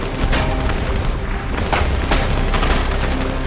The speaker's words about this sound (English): As Enzo drives off, Burton trades gunfire with the unseen enemy.